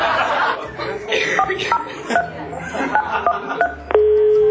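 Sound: telephone number being dialed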